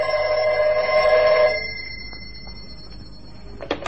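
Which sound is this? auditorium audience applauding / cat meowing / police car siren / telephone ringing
telephone ringing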